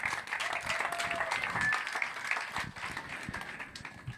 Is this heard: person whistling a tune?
no